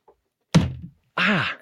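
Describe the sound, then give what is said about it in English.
A single hard hand slap on a wooden table, a dull thump with a short decay, followed a moment later by a brief voiced groan. “Go Loud, the home of podcasts where we all get together and slap the table.”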